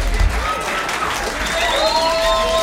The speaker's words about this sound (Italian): Fellas, let's give the band a nice round of applause, this wonderful band.